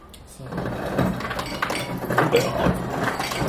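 Several ice cubes clink and knock into a glass in a quick, uneven series of sharp hard taps, with a low murmur of background noise underneath.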